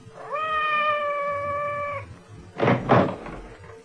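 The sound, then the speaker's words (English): A single drawn-out meow from Madame's cat, Francois, outside the door holds a steady pitch for nearly two seconds, then two dull knocks or thumps follow close together, as if against a door. No one speaks. “It sounded like Madame's cat, Francois.”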